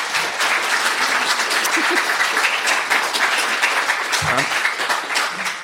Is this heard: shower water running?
no